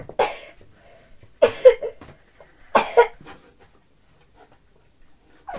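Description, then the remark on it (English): A child coughs three times, each cough a short, raspy burst spaced a second or so apart, followed by a stretch of near quiet. “Are you coughing like Mummy?”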